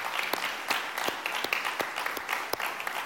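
audience applauding

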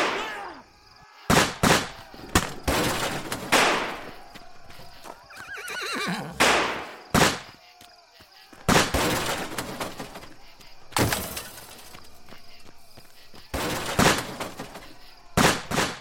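revolver gunshots

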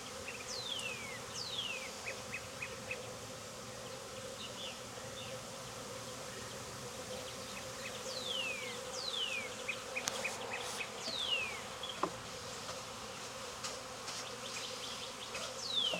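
honeybee swarm buzzing

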